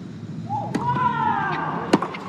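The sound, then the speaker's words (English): Two crisp tennis racket strikes on the ball, about a second apart, sharp, including an inside-out forehand return from Coco Gauff on break point in a match against Sharif, over a steady background murmur with a faint rising tonal sound between them. “Inside out forehand on the return from Goff.”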